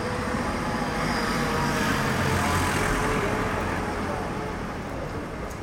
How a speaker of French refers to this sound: ce qui est bien, c'est qu'on n'a pas trop de voitures là, devant nous. On a vraiment un grand espace, quelque chose de très large. Et de temps en temps, ces voitures qui viennent au premier plan et qui ça accentue cette profondeur.